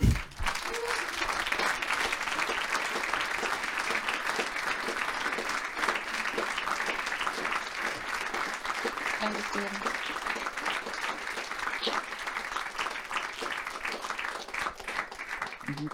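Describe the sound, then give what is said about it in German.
Sustained audience applause fills the whole stretch, a dense, steady wash of many hands clapping, holding an even loudness without pause before tapering slightly at the end; the applause comes spontaneously after a speaker finishes. “Ich wollte eigentlich den Applaus einfordern, aber er kam natürlich von selbst.”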